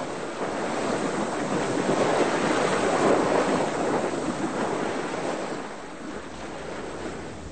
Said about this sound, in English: Oh, here we go. The sail is swinging round and filling out. Here's the wind. Here we go. What a relief. We're shooting through the waves, racing towards the lighthouse.